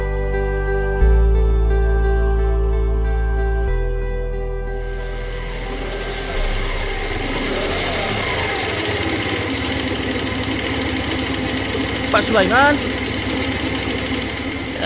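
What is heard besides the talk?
motorcycle engine idling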